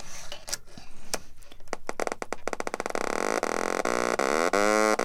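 A few sharp clicks and crackles give way to a loud, buzzy synthesizer tone rich in harmonics from a Little Bits oscillator snapped to a blue power bit and a speaker. The tone's pitch slides and wobbles up and down as the oscillator is tuned.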